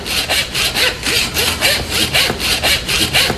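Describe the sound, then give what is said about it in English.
A saw cutting during butchering: about ten loud, raspy back-and-forth strokes in a quick, steady rhythm, each a harsh hissing scrape, with no one speaking. “I need a new saw blade.”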